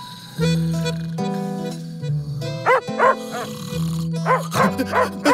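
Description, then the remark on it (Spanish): A dog barks at the moon at night, letting out drawn-out, howling barks, followed by a quick run of sharper, rising yelps, then more long howls and a few final barks, with no one talking. “Pero esa noche, el perro se levantó a ladrarle a la luna como hacen casi todos los perros de vez en cuando.”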